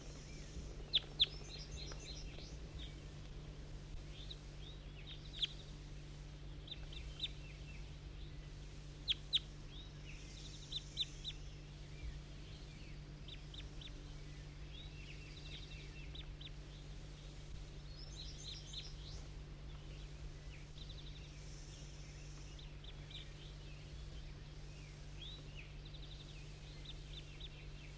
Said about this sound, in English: That was bird 19 calling.